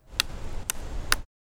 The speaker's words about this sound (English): Next, I added the sound of a stick being hit against a tree.